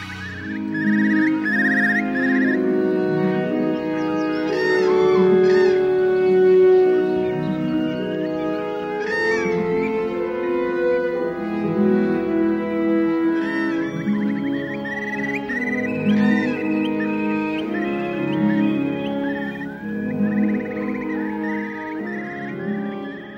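Sustained orchestral strings swell and sway steadily while bursts of bright, warbling bird calls flutter in and out above them, the birdsong recurring several times over the lush music.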